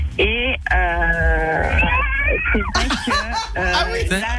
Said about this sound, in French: C'est un chat, en fait. On dirait les chats qui se battent, là, en été.